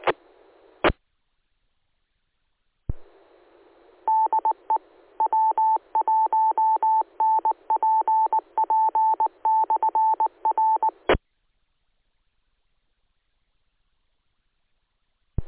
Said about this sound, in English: Okay, the repeater ID, I guess that's priority of sorts.